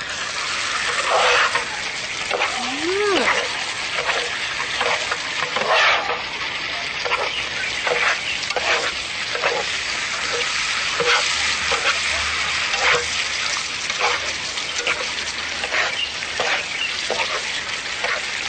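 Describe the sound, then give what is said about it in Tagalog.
Food seasoned with pepper, salt and mushroom seasoning sizzles steadily in a hot pan while a utensil stirs it, scraping and clinking in irregular strokes over the constant hiss of frying. “Ngayon ay hahaluin natin.”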